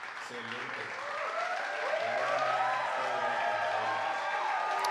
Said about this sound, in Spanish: No, pero esos son aplausos.